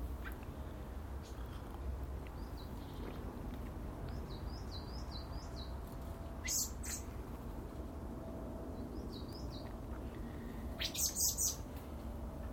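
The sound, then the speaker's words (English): Small birds, blue tits at the top of a Wisley conifer, chirping in short high-pitched bursts: a few repeated thin notes, then sharper scratchy calls, over a steady low rumbling background with no talking. “I'm watching two blue tits at the top of my Wisley conifer.”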